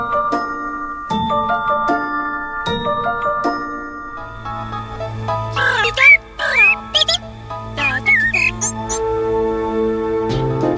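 Several shrill, wavering yaps and squealing, baby-like cries from a fox burst out in quick succession over a steady musical backing of sustained tones and a low hum; the fox yaps as it laughs and gives its baby-like cry when calling a friend.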